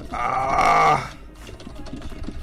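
A loud, bleating-like harmonic cry lasts about a second, then gives way to a quick, irregular clatter of keyboard keys being mashed, soft and busy, with no talking.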